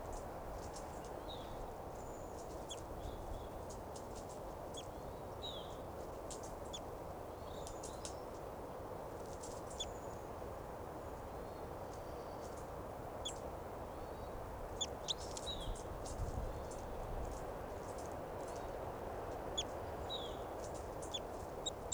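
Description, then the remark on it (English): Two birds, the caged bird 387 and a wild adult female, trade harsh, agitated fighting calls: short, high-pitched chirps and sharp notes, repeated irregularly throughout, over a steady rushing background noise. “Fighting calls there by both birds, 387 and the wild bird, wild adult female here.”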